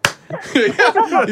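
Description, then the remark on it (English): One sharp, loud hand clap rings out at the start, followed by a voice making rising and falling tonal sounds. “Clap on.”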